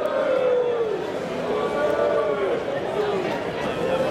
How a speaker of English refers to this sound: He's being booed as we go inside.